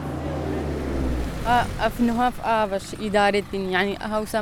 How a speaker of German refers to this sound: Sie zeigt auf den Laster mit einem runden Tank, der gerade an uns vorbeifährt.